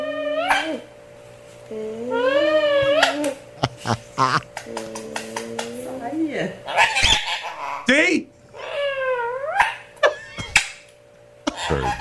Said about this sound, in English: But the parrot is now imitating the smooch noise that like a mom would make when she kisses you. You know, like, mwah.